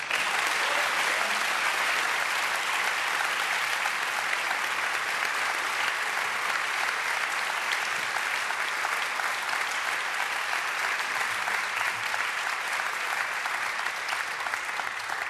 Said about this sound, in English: I don't know if you noticed, but when you were applauding a while ago, half the faculty was walking in. They thought you were applauding them.